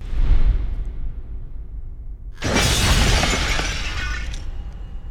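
A low rumbling buildup gives way to a sudden, loud crash of shattering glass, with bright tinkling shards scattering for about two seconds before fading; a sound effect for on-screen title text breaking into little pieces. No one speaks.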